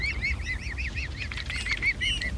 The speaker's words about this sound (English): And it's a noisy area, but if you listen carefully, you will hear a lovely little squeaking sound. And that's the squeaking sound of cygnets. It's a bit of an odd sound being a bird so large, but it serves a very useful purpose.